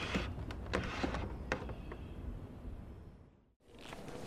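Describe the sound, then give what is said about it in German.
A door is eased open a little, as quietly as possible, with a steady low scraping slide and a few small clicks and rattles along the way. It is subdued, pausing briefly near the end before the sound resumes. “Aber stattdessen kroch er näher zur Tür und versuchte, diese so leise wie möglich ein Stück zu öffnen, um sehen zu können, was dort vor sich ging.”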